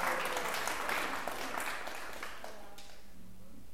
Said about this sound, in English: Let's give a bit of a applause for that.